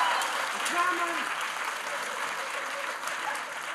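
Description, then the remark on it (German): A crowd applauding, dense and continuous clapping that holds at a steady, fairly loud level for several seconds without building or fading. “Imagine, für so einfache Sachen Applaus bekommen.”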